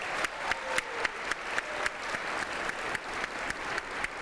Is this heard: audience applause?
yes